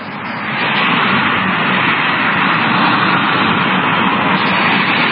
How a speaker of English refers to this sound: traffic was coming this close to the burning car